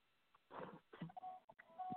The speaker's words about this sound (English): Excuse background noise. I'm at my daughter's. The phone decides to ring, as is my turn, but God is able, and we still can get on with this service, and I hope you can hear me.